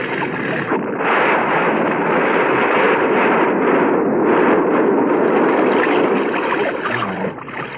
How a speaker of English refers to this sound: Never saw a bus blow before.